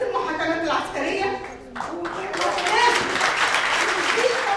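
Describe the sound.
A voice speaks over murmuring for a couple of seconds, then a crowd breaks into steady, dense applause that continues loudly to the end.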